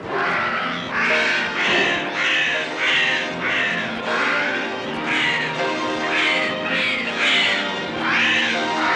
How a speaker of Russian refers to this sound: В этот миг послышалось чье-то мерзкое карканье. Это хищные птицы ринулись свысока на беззащитных гусениц.